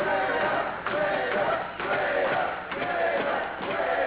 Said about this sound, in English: Well, I never see a crowd so angered. You know, they have every right to be angry because Al, being from Lima, Ohio, is a hometown boy, and he's completely turned his back on all the fans in Lima.